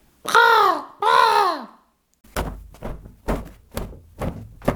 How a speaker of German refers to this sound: Am nächsten Morgen wachen die beiden auf, weil sie ein Rabenkrächzen hören.